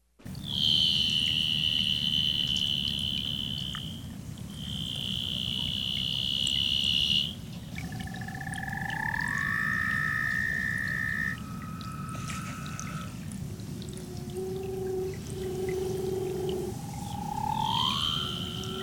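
A leopard seal, an animal of 16 to 17 feet, calls underwater in the Antarctic: long, eerie high-pitched tones and gliding whistles that rise and fall, repeating over a steady low rumbling background, with no talking.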